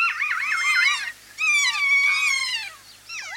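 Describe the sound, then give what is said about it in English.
Loud calls of a kea, a large alpine parrot of New Zealand's South Island, in three bursts, each a shrill, wavering warble that rises and falls in pitch, with brief pauses between them and no talking. “Kias are large alpine parrots that live on New Zealand's South Island.”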